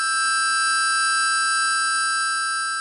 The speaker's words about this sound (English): In music, these are called difference tones. So if you play 2 different notes on the harmonica at the same time, you'll hear a 3rd note underneath. Do you hear it? It's this note. Here are the 2 together again.